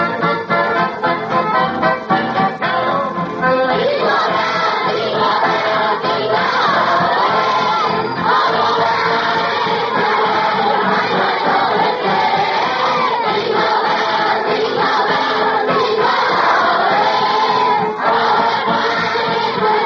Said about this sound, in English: So, let's get the Christmas party underway with the stars of our show, all the wonderful boys and gals out there in the audience, and kids, we want you all to join us and sing Jingle Bells just as loud as you can, will you?